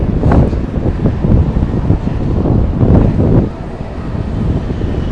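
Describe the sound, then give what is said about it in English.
Loud, gusty wind buffets the microphone in rough low-frequency rumbles and thumps, surging and easing across the whole stretch with no voices present. “It's also extremely windy here, so I'm going to have to test this podcast out before I publish it.”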